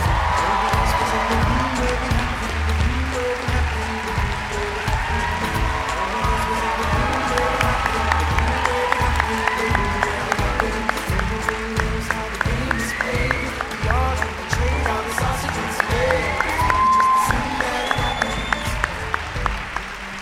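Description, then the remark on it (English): A large audience applauds loudly and steadily for about twenty seconds as Hamilton cast members, including Leslie Odom Jr. and David Diggs, are welcomed. Thick clapping is mixed with cheers and scattered whoops rising above the roar. “Wow, I'm hearing some Hamiltonian love in the room.”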